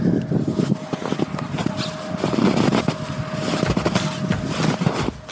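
Footsteps crunch through metre-deep snow in a steady walking rhythm, each step a gritty, crackling burst over a constant hiss, with a faint steady hum running underneath.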